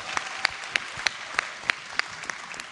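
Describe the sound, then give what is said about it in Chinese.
A church audience applauds steadily to welcome a speaker about to give a testimony, a dense wash of clapping with a sharper, even beat cutting through about three times a second. No one speaks. “请大家用最热烈的掌声来欢迎他。”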